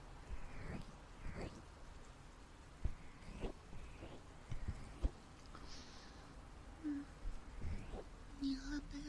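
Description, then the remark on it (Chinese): Steady, soft rain falls, a continuous low hiss with scattered sharper drips and taps, plus a few faint bird calls. “我也不知道什么时候下雨的，我都睡着了。”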